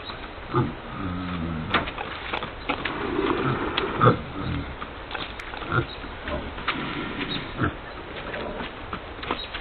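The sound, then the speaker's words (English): Several pigs grunt and snort in short, irregular bursts, moderately loud, over a steady rustling background noise. “I was trying to eat the pigs and now the pigs are trying to take me out.”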